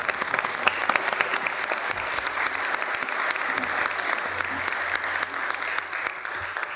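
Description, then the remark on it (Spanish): A sustained round of audience applause, dense and steady clapping from many hands at an even loudness throughout, with no one speaking over it. “Un aplauso.”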